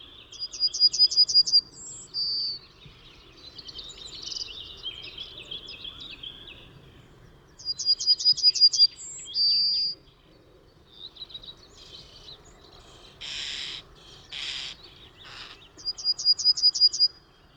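A yellowhammer sings three times, each phrase a fast, thin trill of repeated notes ending in a drawn-out final note, spaced several seconds apart, with other birds chirping softly in the background.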